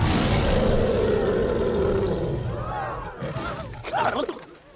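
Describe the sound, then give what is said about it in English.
A man lets out a long, loud, guttural roar in imitation of a lion, holding it for a couple of seconds before it breaks into rougher growling bursts and fades. “Do the roar, man, do the roar.”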